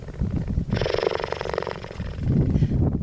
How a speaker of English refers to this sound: So like a kitty cat or like a house cat, cheetahs can purr when they're content. So here's a cheetah purring.